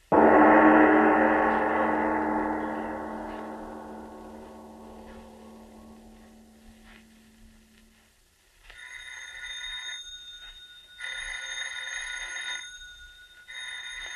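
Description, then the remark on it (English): A deep, resonant gong-like tone swells and slowly fades, then a telephone bell rings in three bright, rattling bursts separated by short pauses. “Miss Goddard, answer the phone, please.”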